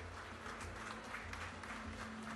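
A crowd claps steadily in a dense, continuous round of applause that fills the whole moment, with a faint low hum underneath, for Wilson Brizola, municipal secretary of Sport and Leisure, as officials are called to the stage at a municipal event.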